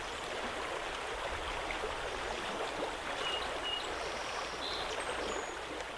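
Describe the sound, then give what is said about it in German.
A babbling river runs steadily throughout, a continuous bright rush of splashing water with no pauses and no voices. “Oder sehen Sie vielleicht die hohen Berge, hören das Plätschern eines Flusses, genießen Sie die Natur?”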